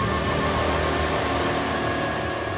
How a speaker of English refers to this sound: We better do it quick. It looks like it's going to... rain!